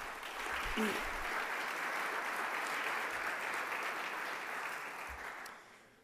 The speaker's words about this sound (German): Insbesondere darf ich an dieser Stelle begrüßen unseren Bischof Elmar Fischer. Ich bitte um einen kräftigen Applaus.